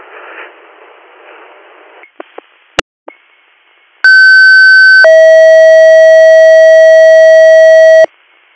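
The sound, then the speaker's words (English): Radio static and a few sharp clicks, then EMS dispatch paging tones for Clear Valley EMS, second due: a loud steady higher tone held for one second, followed by a lower tone held for about three seconds. “Clear Valley EMS, disregard your tones.”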